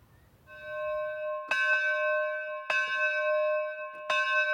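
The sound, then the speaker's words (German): A single medieval-style church bell, its shape made as in the Middle Ages, tolls three times at a slow, steady pace, each strike ringing out with a rich, sustained harmonic hum that lingers between blows. No voices are present. “Sogar die Glockenform und damit wohl auch ihr Klang, wie damals.”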